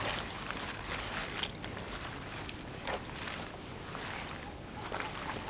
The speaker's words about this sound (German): Hey, das sind doch Schritte. Wollen wir doch mal sehen, wer sich hier rumtreibt.